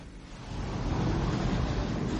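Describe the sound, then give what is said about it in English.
A helicopter approaching: a deep, steady rumbling roar that swells gradually louder over a couple of seconds, with no voices. “Knight, sir, the helicopter is approaching.”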